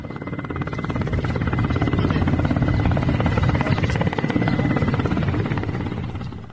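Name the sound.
helicopter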